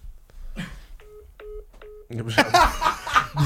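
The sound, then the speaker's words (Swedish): Three short, evenly spaced phone keypad beeps ring out clearly as a phone number is dialed to make a call, followed by a sudden loud burst of noisy voices. “De ringer på Alex och Sigge i telefonen.”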